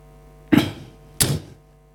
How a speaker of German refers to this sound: Ich mach mal meine Schublade auf.